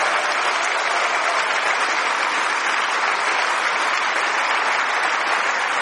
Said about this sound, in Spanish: ¿Alguien le da un aplauso a Juan Pablo II, por favor?